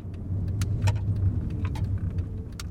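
A square gray car backs slowly out of a parking space, its engine a steady low rumble, with scattered sharp clicks and light rattles over it. No one speaks.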